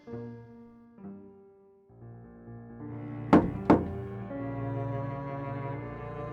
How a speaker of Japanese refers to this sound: ああ、また女たちに呼ばれた。男は、ドアのノックの音だけで、これから行われる出来事を予感した。